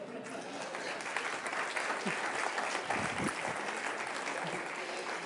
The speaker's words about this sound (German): Dicken Applaus, sehr mutig, ja?